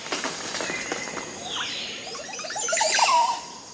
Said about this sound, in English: Listen to this song. It's a male Montezuma Oropendula displaying for a female while he swings from a tree branch in a Central American forest. Today, he's holding forth in a tree bedecked with 20 or more Oropendula nests.